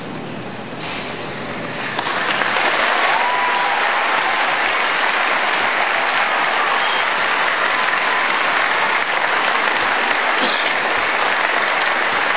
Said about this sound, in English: Did you hear the pause while they waited for the applause light to come on?